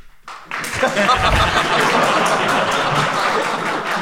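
The McCulloch audience breaks into sustained applause to vote for one side of a debate, a dense wash of many hands clapping that swells quickly after a brief quiet start and holds steady and loud for several seconds.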